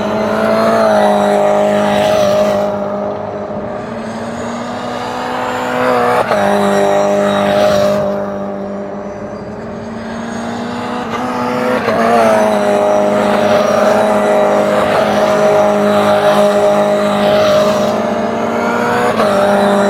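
Race cars, including Toyotas, roar around a track during a session, engines droning loudly with rising and falling pitch as they pass, swelling and fading in repeated waves with no voices present.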